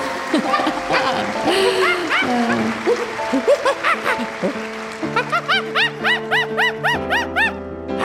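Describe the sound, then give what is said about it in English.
A monkey, Riley the ice skating monkey, chatters and hoots, its squeaky calls growing more rhythmic into a rapid run of repeated high whoops near the end, with no talking. “Riley, the ice skating monkey!”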